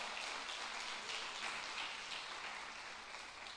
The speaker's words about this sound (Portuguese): Aplauda Jesus, porque ele é digno.